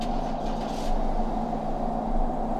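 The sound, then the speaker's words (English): A car starts up, its engine running with a steady, low droning rumble throughout, a brief airy hiss rising over it in the first second. No voices. “Then I heard him leave. I turned towards the window, his car started up.”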